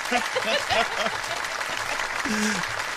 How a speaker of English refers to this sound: I even have an applause for that.